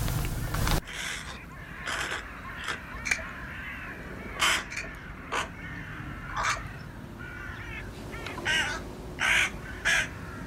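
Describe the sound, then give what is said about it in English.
Crows caw repeatedly in short, harsh bursts, some in quick pairs, over a steady low rumble of background noise, with no one speaking. “we just want you to bask for a few minutes in the sound of the birds and think about that thought.”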